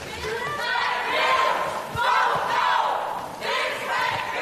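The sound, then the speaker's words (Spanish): A crowd of protesters against a migration pact shouts slogans in unison, interrupting a European Parliament vote for a few minutes, crying "this migration pact kills, vote no", loud, with surging rhythmic bursts of many voices echoing and faint thuds underneath. “De hecho, un grupo de manifestantes contrarios al pacto han interrumpido la votación durante unos minutos.”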